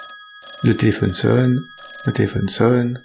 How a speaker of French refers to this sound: Le téléphone sonne, et ça décroche.